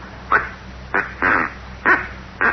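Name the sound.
duck call being blown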